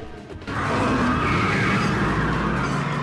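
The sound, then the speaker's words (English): A car engine roars up suddenly and tyres screech loudly as the vehicle speeds away, a sustained skidding squeal over the revving motor lasting several seconds. “They get into the car and speed away.”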